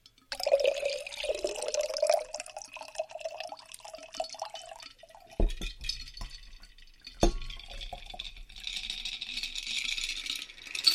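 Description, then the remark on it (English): A shaken cocktail with ginger is poured into a chilled cocktail glass: a steady trickle of liquid, then a couple of sharp metallic clinks and loose ice rattling, with no one talking. “Give that a little shake. And you're going to pour that into a chilled cocktail glass.”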